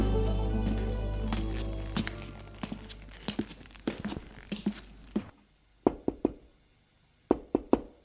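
Knocking on a door: scattered knocks over a fading low hum, then two clear groups of three sharp, close raps separated by a short silence.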